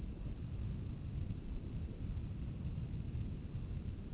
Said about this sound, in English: it's now thundering here.